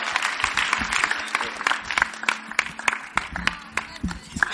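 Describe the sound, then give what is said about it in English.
A crowd claps steadily to welcome a speaker giving a testimony, many hands together producing a dense, continuous patter with sharper individual claps standing out, sustained for several seconds. “Keep clapping, keep clapping. Keep on clapping.”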